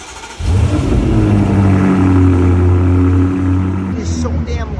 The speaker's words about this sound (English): This is a 7-day cold start on my 2018 F90 M5 with a full titanium exhaust.